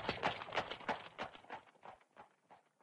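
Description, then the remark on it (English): Hooves of four strong horses pulling a big covered wagon loaded with a family's belongings clip-clop in a steady, even rhythm, a quick series of sharp knocks that gradually grow quieter as if moving away. No voices are heard. “Four strong horses pulled the big wagon.”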